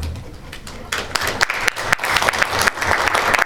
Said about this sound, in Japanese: ありがとうございます。異議なしという拍手をいただきましたので